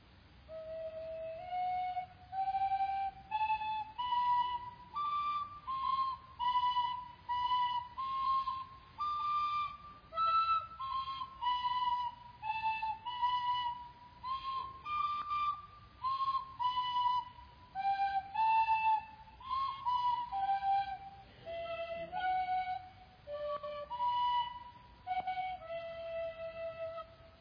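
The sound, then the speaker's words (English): Two tin whistles play a lively melody together in close unison, bright and reedless, with short phrases rising and falling steadily for nearly half a minute and no one talking. “I want you two to just play something real quickly for me on your tin whistle together, okay?”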